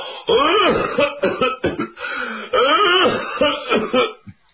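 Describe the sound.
A man's voice performs a run of gruff, throaty coughs and throat-clearing, several bursts in uneven rhythm, fairly loud, acted out as an imitation of someone coughing as he walks out of a house with footsteps.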